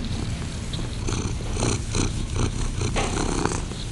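A female domestic cat purrs steadily, a continuous low rumbling vibration with gentle rhythmic pulses as it breathes in and out, fairly loud and with no talking.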